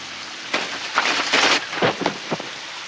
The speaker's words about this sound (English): Water streaked with dark blood flows under Marion's feet and legs. The diluted mixture washes against the tub's clean white bottom and disappears as it turns a spiral down the open drain.